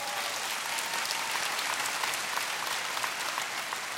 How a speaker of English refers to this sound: Let's clap our hands